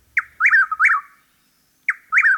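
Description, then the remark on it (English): A chuck-will's-widow, a rare southern cousin of the whippoorwill, calls twice at its nesting site on a base in Massachusetts, each phrase a quick run of loud, rolling whistled notes with a clipped start, separated by a brief silence. No one speaks. “Even a rare southern cousin of the whippoorwill, the chuckwill's widow, has chosen the base as its only significant nesting site in Massachusetts in recent years.”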